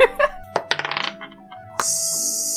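Dice tumble and clatter as they are rolled for a senses check: a few sharp knocks, then a quick rattling run of bounces that settles, followed by a steady hiss. No one speaks.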